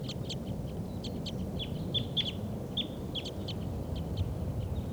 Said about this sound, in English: Start recording the wild birds.